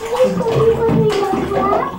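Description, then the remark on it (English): Water sloshes and splashes in a bathtub as a child plays wildly in the bath, steady for about two seconds, with a child's voice and other voices mixed in underneath. “You're getting too wild in the bath.”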